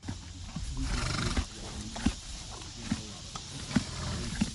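A horse whinnies at a farm amid a scatter of hoof clops that land at uneven intervals against a steady outdoor background hiss, not very loud.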